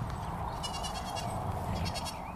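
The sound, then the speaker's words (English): A goat bleats twice as the sign for Anglia Farm Shop on Cambridge 105, each a wavering, nasal cry, the first longer than the second, over a steady low rumble of background noise with no one talking. “You see the sign of a goat when you hear Anglia Farm Shop.”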